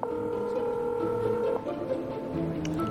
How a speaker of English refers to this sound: A waiter watches them and makes a phone call.